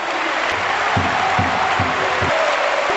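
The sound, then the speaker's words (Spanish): A large crowd at La Fonteta, Valencia Basket's arena, stands and applauds at the end of a game against Real Madrid, with Real Madrid players and the referees also clapping. A dense, continuous wash of clapping with some cheering mixed in and low rhythmic thumps underneath, fairly loud. “Jugadores del Madrid incluidos, aplaudiendo.”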